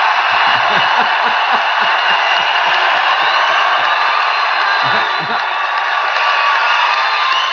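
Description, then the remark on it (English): A large rally crowd screams and cheers loudly and continuously for President Trump, a dense roar of voices filling the space, with scattered shouts and whoops rising above the din. “let me hear you scream!”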